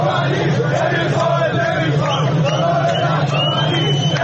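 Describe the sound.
A dense crowd of mobile-phone market traders protests in the streets by Istanbul Square and Manouchehri Street in Tehran against sharp currency price swings. They shout and chant continuously, many voices overlapping in a loud, steady roar with occasional higher yells cutting through.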